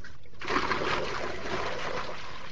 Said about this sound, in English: Water must be drawn from a well.